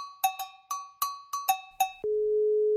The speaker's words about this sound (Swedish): Han är upptagen. Man hör det på ljudet. Så det säger du alltid, sen svarar de ändå. Ja. samma ton.